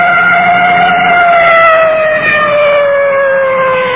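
A police car siren wails loudly and continuously as the car approaches a large intersection, its steady tone sliding slowly downward with strong harmonics, heard over a rumble of engine noise with no voices.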